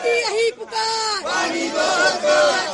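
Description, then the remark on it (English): A crowd of protesters shouts and chants loudly on the streets of the national capital at the BJP and Congress Matka Phodo protests over the water crisis. Many raised voices overlap in a continuous, high-pitched roar with only a brief dip partway through. “High drama on the streets of the national capital as BJP and Congress both held Matka Phodo protest over the current water crisis.”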